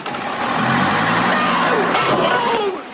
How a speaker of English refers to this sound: The bus knocks the bus stop over. Oh, God. Look what he's done!